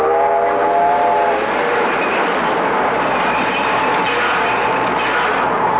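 A train rumbles steadily along the rails, loud, with a horn-like harmonic tone at the start fading into continuous rolling wheel noise.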